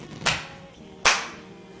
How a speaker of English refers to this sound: Let's have a clap. Okay. And action.